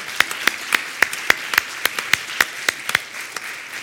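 An audience claps together applauding a beautiful Minnesota day and the opportunity to live another day, in a steady, even rhythm, about a dozen sharp claps at a brisk pace over a soft wash of background noise, with no talking.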